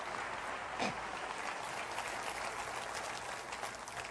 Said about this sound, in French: Et j'aimerais qu'on applaudisse ensemble le Seigneur de grâce.